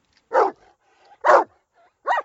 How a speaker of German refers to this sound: Oh ja, ich kann deinen Hund hören. Aber wo ist er?